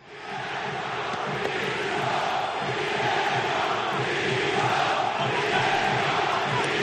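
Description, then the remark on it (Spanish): A large stadium crowd of Sevilla fans roars in protest at the end of a match, a steady, dense wash of jeering, whistling and rhythmic chanting against the club's board, demanding its resignation, holding loud and unbroken from start to finish. “Cabreo sevillista pitada al final del partido, gritos de directiva, dimisión y opinión de los sevillistas.”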